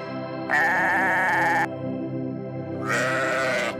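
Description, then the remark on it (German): A sheep bleats twice, loud: a long wavering bleat, a pause, then a second one. A steady, soft tonal hum continues underneath throughout. “Von allen Geschöpfen Gottes haben die Schafe den schönsten Nachwuchs.”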